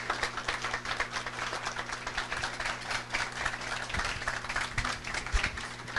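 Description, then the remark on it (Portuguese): An audience applauds steadily, a dense, even wash of many hands clapping that holds at a moderate level for about six seconds without any voices, applauding the new Advisory Council for Museum Heritage of IBRAM as it begins its work. “Pedimos a todos uma salva de palmas para o Conselho que hoje inicia seus trabalhos.”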